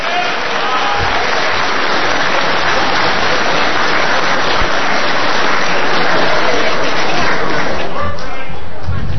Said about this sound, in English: Good morning, ladies and gentlemen. Let's have a big ACB applause of appreciation